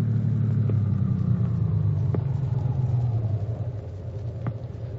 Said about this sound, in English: Now they have reached the Dawson home and Dr. Jim stops the car.